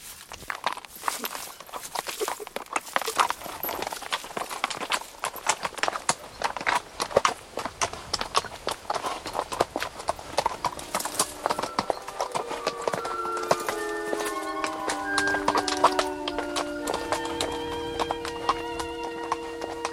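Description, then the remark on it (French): Horse hooves clip-clop steadily through woods after leaving the road, a dense rhythmic patter of strikes for the whole stretch, with a drawn-out whinny-like call rising over the hoofbeats in the last few seconds. “Ils quittèrent la route et traversèrent le bois.”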